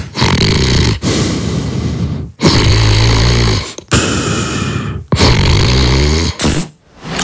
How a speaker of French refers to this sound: c'est toi qui as pété dans le lit? Mais chérie, je dors. Ah merde! Ah, c'était moi. Oh, c'est moi qui ai pété. Je reconnais l'odeur.